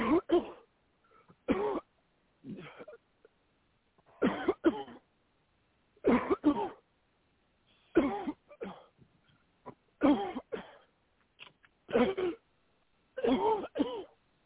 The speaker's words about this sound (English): Keep coughing. Come on out of it.